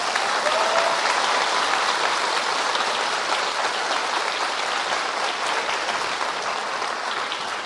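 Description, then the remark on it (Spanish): Sustained audience applause congratulating the parents, a dense steady wash of many hands clapping at once, loud and even throughout with no voices standing out. “En la persona de ellos, felicitemos a esos papás con un aplauso.”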